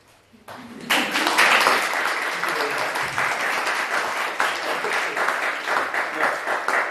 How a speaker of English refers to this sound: now you're free, the talk is over, they have clapped, you can come here.